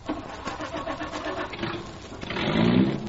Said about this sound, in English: That is, if I can get the car started. Sometimes this thing sticks.